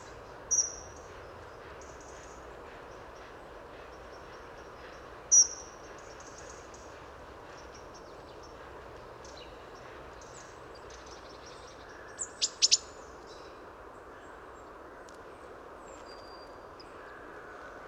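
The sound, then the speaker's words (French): Thin, high-pitched calls of a dunnock, short and sparse: a single note, another a few seconds later, then a quick cluster of three near the end, over a steady insect-like hiss. “Petit cri fin aigu très intéressant de l'accenteur mouché.”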